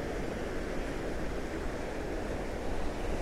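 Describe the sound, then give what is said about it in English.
Sea waves wash steadily onto a sandy beach at low tide, a continuous rushing hiss with gentle swells and no distinct breaks, with no voices. “I'm sure if I was an aficionado of the sea, I do love the sea, I'd be able to tell you that it sounds different to somewhere else, but it just sounds good to me.”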